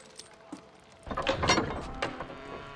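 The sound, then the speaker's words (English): A couple of faint clicks, then the latch of a heavy bolted door rattles and scrapes for about a second as a guard examines it, ending in a sharper metallic clack, with no voices. “The guard in the center turns around to the heavy bolted door behind him and examines the latch.”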